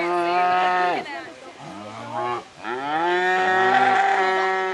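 Several cattle moo loudly at the Cow Olympics at the Oregon State Fair, moments before the event starts, long drawn-out calls overlapping one another almost without pause, giving a restless, clamorous herd sound with no talking.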